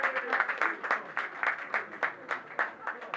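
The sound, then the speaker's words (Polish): An audience at a Miss University pageant applauds the candidates, many hands clapping in a dense, crackling patter with a loosely rhythmic pulse, steady and moderately loud for a few seconds without any talk. “Brawa dla kandydatek.”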